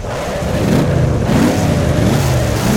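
A loud engine revs repeatedly, its pitch rising and falling in rapid surges like a race car being throttled hard, with a constant roaring drone underneath.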